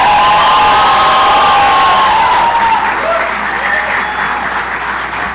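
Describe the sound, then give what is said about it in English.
A large crowd in Buffalo breaks into loud, sustained applause for the speaker's wife, with cheering and high whoops, a dense wash of clapping that holds steady for several seconds before easing slightly. “How about a huge round of applause for my rock, my wife,”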